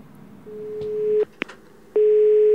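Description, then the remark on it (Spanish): A phone line's steady electronic call tone sounds in two clear beeps with a short gap and a faint click between them, loud, with no one talking, as gas workers call a wrong telephone number. “Y en la primera broma de hoy es cuando unos operarios del gas llaman a un teléfono erróneo y lo bueno del todo es que la otra persona le sigue el juego.”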